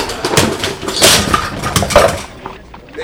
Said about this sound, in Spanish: El carretonero viene fumado. ¿Chocó contra el muro? Se le cayeron una caja.